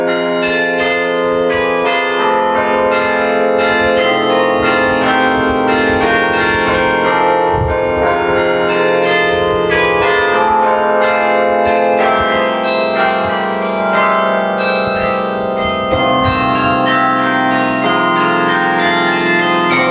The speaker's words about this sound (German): Das Carillon spielt immer mittwochs und samstags von 11 bis 11.30 Uhr.